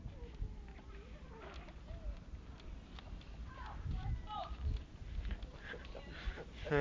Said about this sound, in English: Goat. No, it's the goats on Sue's.